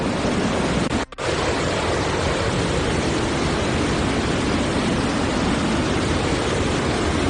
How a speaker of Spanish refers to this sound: Con esta fuerza corre el agua del río, que parece que no ha dejado desperfectos ni desbordamientos.